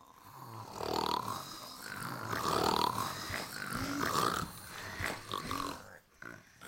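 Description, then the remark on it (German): Four men lying in their beds snore loudly together in overlapping waves, with rough, grunting snorts rising and falling, with no talking. “Die 4 Kerle aber lagen in ihren Betten und schnarchten wie die Wildschweine.”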